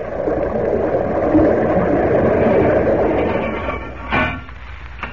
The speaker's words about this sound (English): Gently, the huge bell settles on the bottom. In his diving suit, Gleason emerges from the bathysphere in search of the age-old Spanish treasure ship, leaving Kent and Professor Thorpe to close the steel safety doors behind him. Listen.